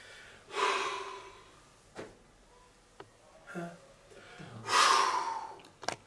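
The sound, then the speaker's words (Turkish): A person blows out breath forcefully several times, imitating the blowing of the trumpet (Sur), with two strong, airy exhalations standing out among shorter puffs and a few small clicks, without speech. “Sür, ben şimdi şeyi öfürüyorum sürü.”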